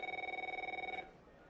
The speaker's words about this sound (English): Is that your phone?